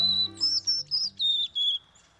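A male white-throated sparrow sings a clear high whistled song: one long opening note followed by a string of shorter, evenly spaced whistles, with no voices.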